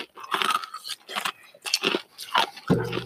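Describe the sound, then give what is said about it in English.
Someone drinks water in a series of uneven, crackly gulps and slurps, about five bursts over three seconds, ending with a short low-pitched sigh. No one speaks. “I'm going to drink water on you real quick.”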